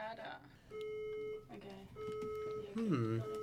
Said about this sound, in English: We're getting a bit of you can probably hear it in the back, we're getting a bit of a fire alarm at the moment.